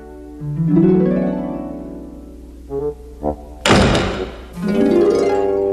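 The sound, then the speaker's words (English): A voice imitates a door, first a long rising and falling creak, then two short thunks and one loud, harsh slam, followed by another drawn-out vocal creak. “I'm so frustrated, I feel like slamming a door, but there's no door around. So I'll imagine one.”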